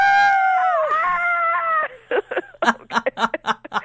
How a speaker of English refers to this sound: Let's all scream together. Woo!